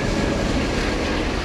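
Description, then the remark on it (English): A steady, dense rumble of a subway train idling at a station platform just before departure, loud, with a broad hiss of machinery and no voices. “It's a sound that you hear when you're standing on the platform and a train is just about to leave the station.”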